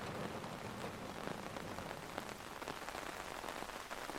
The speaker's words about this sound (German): Obwohl der Regen weiterhin in leichten, beständigen Tropfen fällt, entscheidest du dich, noch ein wenig an der Promenade entlang zu laufen und die frische Meeresluft zu genießen.